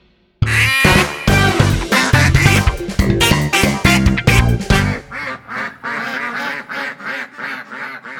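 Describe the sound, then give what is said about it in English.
A duck quacks loudly and repeatedly in quick, raspy bursts, with the calls softening and spacing out toward the end. No one speaks. “Duck.”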